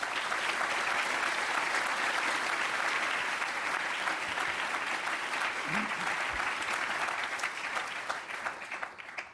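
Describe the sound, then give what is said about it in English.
Sustained applause from an audience welcoming a panel, a dense steady wash of many hands clapping at an even loudness for about nine seconds, with no voices standing out. “but I do hope that you will all join me in welcoming the audience, the panel today with a big round of applause.”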